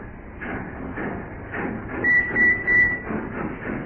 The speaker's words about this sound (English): That perishing dockyard train's coming back.